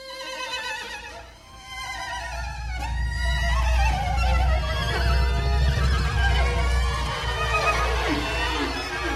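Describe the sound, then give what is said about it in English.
A horse whinnies, a loud, quavering neigh with a couple of sharp upward calls that ripple on for several seconds over a steady low rumble; no one speaks. “He loved horses, and at that time he had a really beautiful white horse, which I've never forgotten.”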